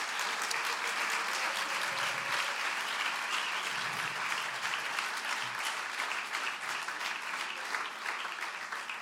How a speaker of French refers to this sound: Voilà, je vous propose de les applaudir pour les remercier encore pour leur présence.